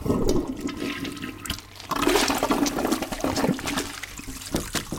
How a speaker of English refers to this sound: I rolled up my sleeve and shoved the cookies into the toilet, flushing furiously.